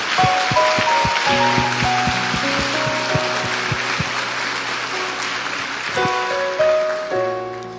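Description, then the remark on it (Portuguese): A church audience claps steadily and continuously for several seconds, applauding God, a dense crackling wash of hands, with sustained keyboard chords ringing underneath and shifting near the end. “Eu queria que vocês nessa hora fizessem uma coisa comigo: vamos aplaudir a Deus por essa ideia chamada igreja.”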